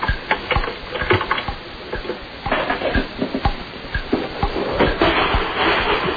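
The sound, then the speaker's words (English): A blender at home in a kitchen grinds and crushes ice cubes, with rapid, irregular cracks and rattles over a steady, harsh whirring roar that runs for several seconds without speech. “What I want you to do now is put some ice cubes in your blender.”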